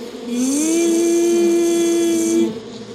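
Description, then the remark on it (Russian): A voice imitates the ringing of a pesky mosquito with one steady, buzzy 'zzz' tone. It rises briefly at the start, holds evenly for about two seconds, then stops. It is fairly loud, with no talking. “Так звенит вредный комар.”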